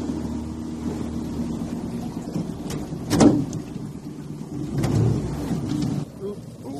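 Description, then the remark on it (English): A boat's engine drones low and steady outdoors as it arrives at Skorry, just south of Ullapool, on a grey, windswept day, while gusty wind buffets the microphone, with a couple of louder rushing bursts, like spray or strong gusts, partway through. “There's only a footpath to the community by land, and the best way here is by boat.”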